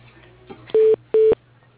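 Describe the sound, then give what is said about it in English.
Two short, loud telephone tones at a steady mid pitch as a call is transferred to voicemail, separated by a brief pause, over a faint low line hum with no talking. “Let me put you into his voicemail.”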